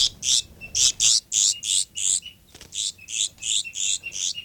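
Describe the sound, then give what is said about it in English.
A bird gives a long series of sharp, high alarm calls, roughly fourteen harsh notes in a quick, steady rhythm with a brief gap midway. They ring out loudly with no talking. “Alarm calls up there by 5'9".”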